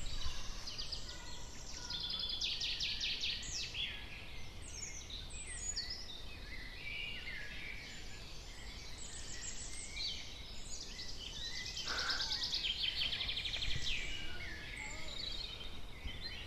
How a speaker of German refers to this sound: Und die Vögel. Wir können einfach mal still sein und nur die Vögel hören. Ja, macht ihr mit?